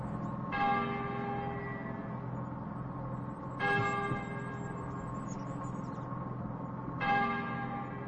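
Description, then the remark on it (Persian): The bell of a small church a little farther off tolls three times in the morning beside a river, at slow, even intervals, each strike ringing out with a long, rich humming decay over a steady background murmur. No one speaks. “او با صدای ناقوس کلیسا از خواب بیدار می شود.”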